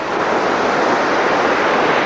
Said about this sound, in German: Wir sind gerade zusammen am Meer. Unter uns Sand, da hinten das Wasser mit den heranrollenden Wellen.